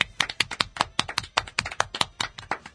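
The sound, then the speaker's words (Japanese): A quick burst of applause from a few people, sharp overlapping claps in a steady, slightly uneven rhythm lasting a few seconds, with no talking. “拍手。”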